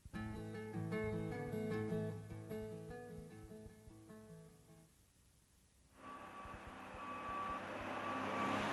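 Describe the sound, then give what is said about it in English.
A heavy cement truck's engine drones and rumbles, then regular high-pitched reversing beeps sound over a loud, hissing mechanical roar as the truck backs up, bringing cement to a construction site. “The truck drivers are coming with the cement.”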